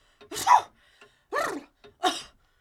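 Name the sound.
a big sneeze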